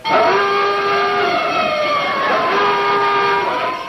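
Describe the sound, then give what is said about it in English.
A homemade burglar alarm blares continuously, a loud, steady horn-like tone rich in overtones whose pitch wavers and dips slightly, sounding for the full four seconds with no voices. “Oh, it's just my homemade burglar alarm.”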